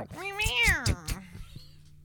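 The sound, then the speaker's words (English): A person does a drawn-out, rising-then-falling meow imitating a cat, loud, followed by a few soft clicks and breaths in the quiet moments after. “That's exactly how a cat sounds.”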